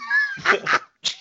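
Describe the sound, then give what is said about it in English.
A cat on a table meows once, a drawn-out tonal cry, followed by a couple of sharp, breathy bursts and a short noisy sound at the end. “Get that pussy off the table.”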